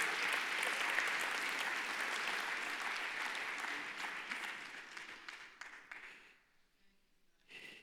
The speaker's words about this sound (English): Will somebody clap your hands and praise Him in this house today? Thank you, God.